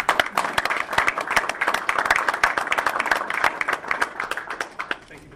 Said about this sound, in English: So if you could all join me, I would say normally we want to do a moment of silence, but Doug was not silent. So if you could all just give Doug a round of applause.